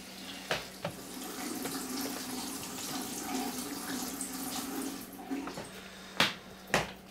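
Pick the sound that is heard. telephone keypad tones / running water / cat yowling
running water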